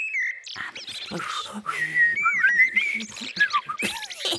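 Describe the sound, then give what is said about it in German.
Someone whistles a fluttering, birdlike melody imitating blackbird song, with quick rising and falling phrases, short trills and bright high notes over about four seconds, with no talking. “Und jetzt gerade lerne ich amselisch.”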